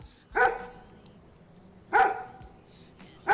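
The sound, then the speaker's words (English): A dog barks three times, single sharp woofs spaced evenly about a second and a half apart, loud with quiet pauses between and no talking. “I'm gonna go kill that dog.”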